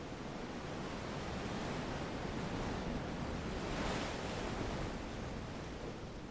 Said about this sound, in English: He dropped the belt he always carries, threw himself on the sand that was warm and fine, and listened to the sound of the surf. It was as if he had finally found someone who spoke his language. The Pacific Ocean.